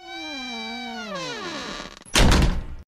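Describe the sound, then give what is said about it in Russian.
The door of apartment 615 creaks open on its own with a long, drawn-out squeal that slides downward in pitch over about two seconds, followed by a short rough scrape or bump as it swings to a stop. “Дверь сама по себе открыта.”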